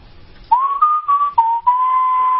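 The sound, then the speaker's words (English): A person whistles a short melodic phrase of a western-style tune, several sustained notes sliding gently between pitches, loud, with brief breaks between phrases. “Normally, I'd start playing a nice little sort of Marlboro Man song, but since I don't have my box, let's just pretend it is, because it is time for 1911 University”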